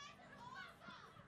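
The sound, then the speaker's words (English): A crowd of children shouting and cheering excitedly, their high voices overlapping in a steady, continuous burst of joyful noise. “I don't know if you guys back there can hear, but they're shouting at us that they're really happy.”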